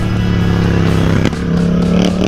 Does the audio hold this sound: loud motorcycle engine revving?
yes